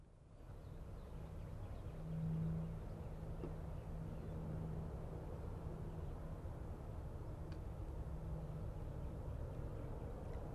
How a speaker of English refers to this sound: Is that an aeroplane going over? I think it's just cars. I definitely hear an aeroplane. Oh, now there is, yeah.